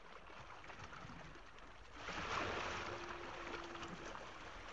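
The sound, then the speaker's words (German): In the morning, water splashes and churns steadily around a boat in the middle of a body of water as it is rowed with strong strokes, swelling louder midway as the oars push through, with no one speaking. “Marie in einem Boot in der Mitte eines Gewässers. Es ist Morgen. Marie rudert mit kräftigen Schlägen.”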